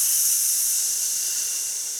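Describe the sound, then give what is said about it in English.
A steady, tight hissing "sss" breath, made while breathing out and squeezing the belly button back toward the spine, sustained and bright for about two seconds at fairly even loudness, fading only slightly toward the end, with no talking. “We're going to use a tight SSS sound.”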